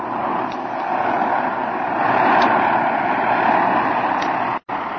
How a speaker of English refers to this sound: As Jim's plane glides to a landing, 2 men seated on the running board of an automobile scrutinize the approaching plane closely and then slowly get to their feet.